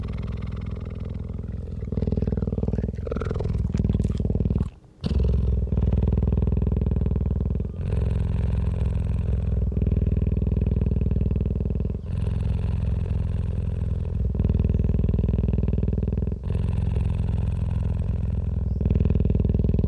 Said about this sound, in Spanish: En él podemos escuchar el sonido del ronroneo de un guepardo agazapado esperando junto a un árbol baobab.